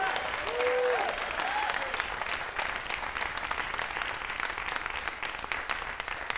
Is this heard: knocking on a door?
no